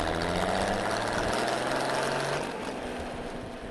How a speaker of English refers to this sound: A truck with special equipment on the back is drilling holes and installing new utility poles.